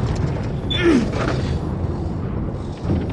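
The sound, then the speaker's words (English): A heavy door of a secluded meditation temple creaks open with a slow, groaning sweep, accompanied by low rumbling and mechanical clunks, fairly loud with no voices. “Let's open the door.”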